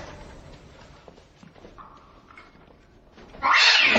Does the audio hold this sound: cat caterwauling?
yes